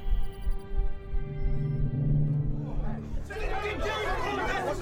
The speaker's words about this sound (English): The Captain's Guild buzzed like a kicked beehive. In-system captains, long-haul captains, all talking at once by the noise level.